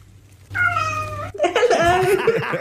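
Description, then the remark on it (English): A cat lets out one drawn-out, steady meow with a human-like, British-sounding "hello" quality, clear, followed right after by excited voices reacting over a faint background hum. “Super cute British hello.”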